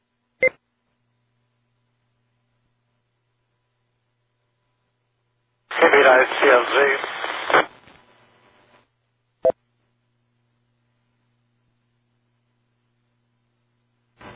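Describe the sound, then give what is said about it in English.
A short burst of analog radio transmission from a station calling in, thin and band-limited, with a garbled voice buried in crackling static that trails off, framed by sharp keying clicks amid otherwise silent air. “You were a little static on you. I guess you're an analog.”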